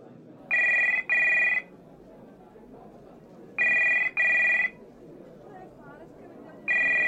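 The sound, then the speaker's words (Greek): A telephone rings in classic double bursts at a husband's workplace as his wife calls him, repeated three times with pauses between, loud over a low background hum; no one speaks. A secretary answers the phone. “τηλεφωνεί στον σύζυγό της στη δουλειά για να του ανακοινώσει τα νέα. Το τηλέφωνο το σηκώνει μία γραμματέας.”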